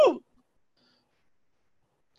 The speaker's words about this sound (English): That hiccups or the tremors? Hiccup. What's that? Hiccup.